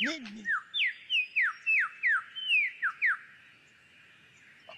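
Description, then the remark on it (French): A superb lyrebird, a songbird that mimics other birds' songs and other sounds, delivers a quick run of about ten loud, clear whistled notes, each sliding downward in pitch, in a steady rhythm before the song breaks off and fades into quiet. “Il possède la faculté d'imiter le chant des autres oiseaux ou divers sons entendus.”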